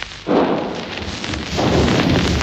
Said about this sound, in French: Dans le quartier populaire dont je vous parle, vous pouvez entendre le canon ennemi et le mousqueton français qui alternent presque sans interruption.